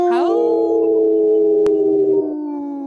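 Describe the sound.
Several human voices on the Native Roots Radio show imitate a wolf howl together, swooping up at the start and then holding a long, steady, fairly loud wavering note for almost three seconds before tapering slightly.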